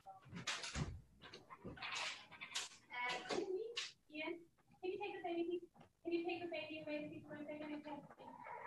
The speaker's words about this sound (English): Because then just give me one second. I have to close the door properly and spin off.